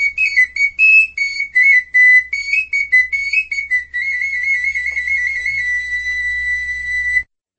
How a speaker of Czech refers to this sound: Je vyrobená ze stejného materiálu jako ty velikánské fujary a ty hadráci, když takhle chodili, tak hráli na ty svoje píšťalky.